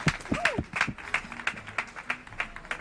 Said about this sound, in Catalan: Que no aplaudeixes tu? Ai, perdó. Aplaude un poco, aplaude-les, aplaude-les. Un aplauso.